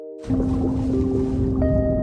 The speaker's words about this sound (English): I dived with these beautiful sounds of whales all the way to the bottom. And I think the bottom was at 23 meters. And I just remember the whales singing along with me and traveling with me.